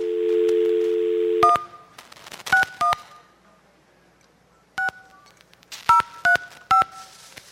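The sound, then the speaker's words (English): A steady dial tone hums briefly, then about seven touch-tone keypad beeps follow at uneven intervals as a phone number is punched in, each beep crisp with a faint click. “Okay, now we know their whole phone number.”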